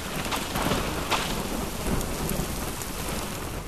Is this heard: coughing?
no